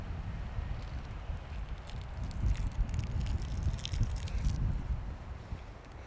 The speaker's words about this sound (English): Big gust coming up. Man. Let's see. So windy.